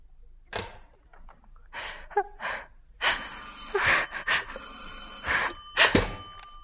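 A few short breathy sounds, then a loud, harsh telephone bell rings at night, clanging almost continuously with brief breaks until the end.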